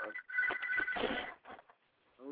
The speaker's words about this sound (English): Oh, look at that. Busy man. You hear that? That sounds like the sound of money. And that's real. Phone ringing? Okay, look. That sounds like some money.